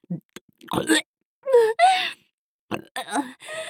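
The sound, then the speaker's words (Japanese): A woman lets out several drawn-out, croaky burps in quick succession, low and rough with a groaning, voiced quality, separated by brief silent gaps and no speech. “エロゲップで追撃。”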